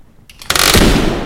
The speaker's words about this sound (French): Oh, une porte vient de se fermer.